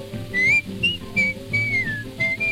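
Someone whistles a bright, melodic tune in clear sustained notes that glide up and down, backed by lively instrumental music and no talking.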